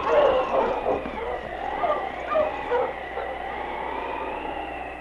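husky sled dogs barking

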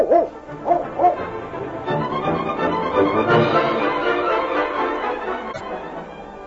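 dog barking

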